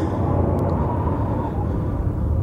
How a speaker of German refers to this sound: Aber hier draußen tobt nur ein furchtbarer Sturm.